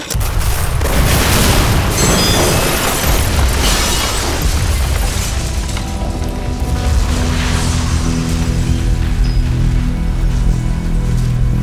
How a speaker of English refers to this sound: Fire in the hole!